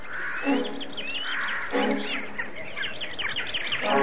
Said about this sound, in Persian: ناگهان پرنده ها دور سر پیرزن شروع به پرواز کردن، سعی کردن پیرزن رو به عقب برانند، اما سفید برفی هشدار اونها رو نفهمید.